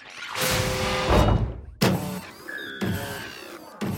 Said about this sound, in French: Devant la grande tour, il y a un engin bizarre qui fait un bruit curieux. Un peu inquiet, il s'approche tout de même. À peine est-il arrivé devant le vaisseau que la porte commence à s'ouvrir lentement.